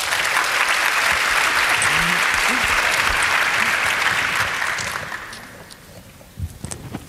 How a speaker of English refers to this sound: Yeah, let's hear it for the introverts. So please, a round of applause for our panel.